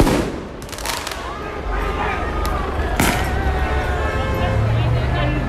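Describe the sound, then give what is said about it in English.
Fireworks go off at a street protest in Atlanta in a handful of sharp, irregular bangs, the loudest partway through, over the steady din of a large outdoor crowd with people shouting and talking. “There were also fireworks in Atlanta.”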